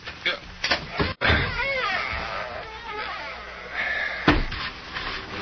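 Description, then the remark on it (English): A heavy outside cellar double door, wide enough for a wagon, is pulled open: a few knocking rattles, a sharp thud, then a long wavering hinge creak, followed by another solid bump near the end. “The double door is wide enough for a wagon. Open one.”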